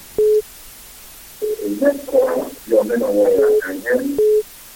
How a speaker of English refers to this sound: Can you hear me, the caller on the phone? Please, can you turn the radio off or move away from it, please?